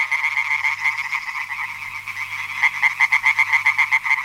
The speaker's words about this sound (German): könntet ihr mal ein kleines Froschkonzert anstimmen? Ja, ein ganz schönes Gequake. Und hört mal, so klingt's in echt.